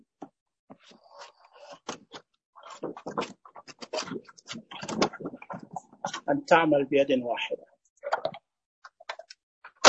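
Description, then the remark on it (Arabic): Paper sheets are slid into a printer's paper tray amid a run of plastic clicks and light scratchy rustles, irregular and crisp, with a man speaking briefly in Arabic over the handling. “طيب شايفين كذا الورق تركب.”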